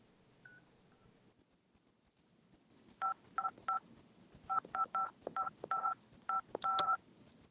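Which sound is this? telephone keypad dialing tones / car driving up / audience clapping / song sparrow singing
telephone keypad dialing tones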